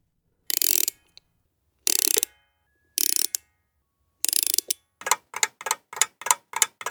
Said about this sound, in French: Les pendules font tic-tac, tic-tac. Les petites pendulettes tic-tac, tic-tac, tic-tac, tic-tac. Et les montres font tic-tac, tic-tac, tic-tac, tic.